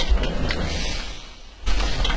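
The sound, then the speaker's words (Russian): A window being closed: a brief mechanical scrape and knock, a quieter stretch, then a second firmer clunk as it shuts, over steady low hum. “Минус окно.”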